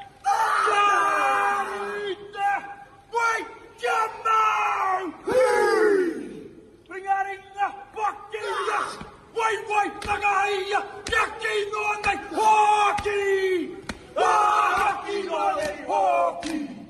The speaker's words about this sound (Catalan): Alguns dels integrants de la selecció han estat avui a l'Alhambra i en aquest escenari concretament a l'emblemàtic pati dels Lleons han improvisat aquesta haka, aquesta antiga gansa de guerra maori que sí.